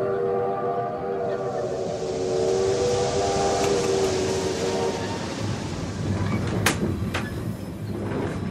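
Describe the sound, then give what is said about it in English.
A train to London rumbles steadily along as a steam whistle sounds a long, sustained tone for several seconds, then fades, leaving the running noise with a few sharp metallic clanks near the end. “The train ride to London proved fateful for Virginia Hall.”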